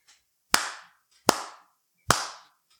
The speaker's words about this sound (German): Dann habe ich nämlich sehr schöne Pegelausschläge. Das ist der einzige Applaus, den ich in der letzten Zeit bekommen habe.